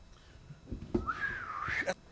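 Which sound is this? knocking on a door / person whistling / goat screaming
person whistling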